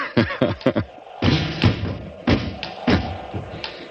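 A window shutter bangs repeatedly in the wind, loud hollow thuds and rattling knocks arriving in an uneven rhythm, some in quick clusters, others spaced apart, with no voices.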